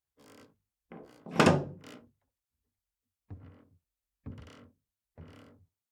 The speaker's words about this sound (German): Jetzt hörte Magdalena deutlich, wie er über ihr den Riegel der Tür langsam verschloss.